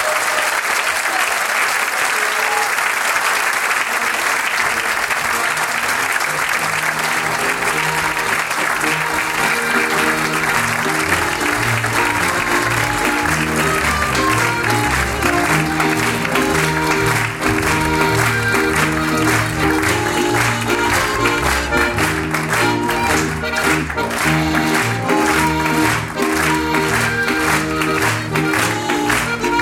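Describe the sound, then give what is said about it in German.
A large audience claps for the children's choir of the Volksschule Ilz as it leaves the stage, in a dense, continuous wash of applause that stays loud and steady for about thirty seconds, with no speech over it. “Es ist auf Nacht, aber sie kriegen noch einmal einen Riesenapplaus.”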